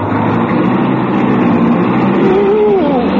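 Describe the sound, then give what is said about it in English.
A car engine is started with the brake pedal pressed, then runs loud and steady, revving up near the end, its pitch climbing and dipping through a dense, constant rumble. No voices are heard. “You've got to step on the brake. Step on the brake? To start my car?”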